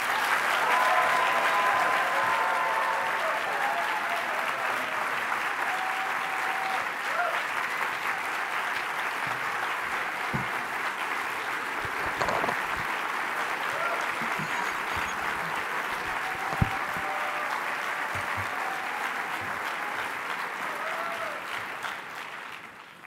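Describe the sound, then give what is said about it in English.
Sustained applause from a crowd of about 1,500 people welcoming a speaker, a dense steady wash of many hands clapping at a constant loud level for over twenty seconds, with a few scattered brief cheers or voices mixed in. “1,500 people clapping for me, I can just give up.”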